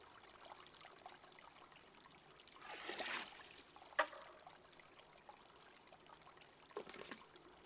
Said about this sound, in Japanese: 私、この炭酸シワシワの泡好きだな。